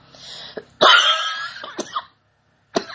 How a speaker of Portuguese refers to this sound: Essa tosse de alergia não é de coronavírus, tá?